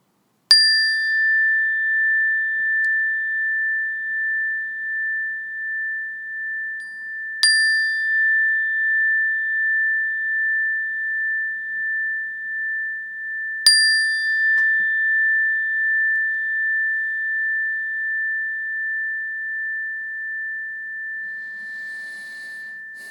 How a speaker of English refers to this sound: in a moment, I'm going to ring this meditation bell